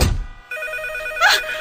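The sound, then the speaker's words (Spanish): A telephone rings with a bright, steady electronic trill, sharp harmonic tones sustained through the short clip, fairly loud with no voices present. “Ay, no manches, maldito teléfono.”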